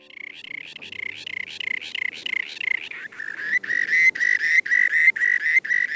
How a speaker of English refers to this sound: Hear that? That's our bird of the month for February, the rock sandpiper. Rock sandpipers are shorebirds that overwinter in Homer and can number sometimes in the thousands.